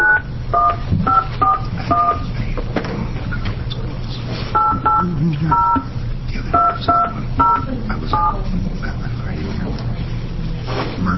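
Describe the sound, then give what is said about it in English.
Touch-tone telephone keys dialed to connect a person joining by phone, a quick series of short dual-tone beeps in small clusters with brief pauses, fairly loud over a steady low hum and faint murmur. “And we have one person joining us by phone, so I'd like to... Go ahead and get us hooked up.”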